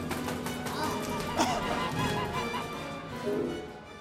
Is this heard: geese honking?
yes